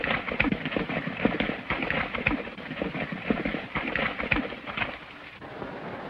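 Hooves of a horse cantering along a river beat in a steady, rolling rhythm, fairly loud, with a broad rushing noise like water or rain underneath throughout.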